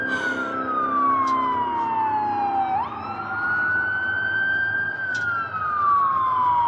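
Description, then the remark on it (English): A loud, wailing emergency siren sweeps slowly down and back up in pitch over a steady rumble of heavy street traffic, with no one speaking. “Hear the angels sing through over all the sirens and the hot rodders.”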